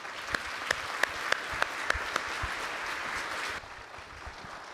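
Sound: audience applause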